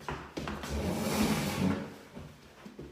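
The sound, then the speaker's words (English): A chair is fetched and moved, scraping and bumping as it is dragged and set down, a broad rumbling scrape lasting over a second with a few sharper knocks before and after. “Let me get a chair.”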